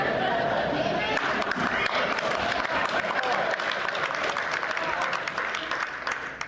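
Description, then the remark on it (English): A church audience applauds steadily during a sermon, many hands clapping in a dense, continuous patter with some cheering voices mixed in, holding loud throughout before easing slightly at the end. “You keep clapping, I'm going to keep preaching.”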